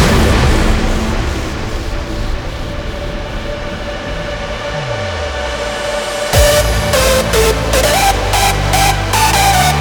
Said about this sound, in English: For a fraction of a second, the air becomes electrically conductive. Now, lightning can strike. Lightning can strike.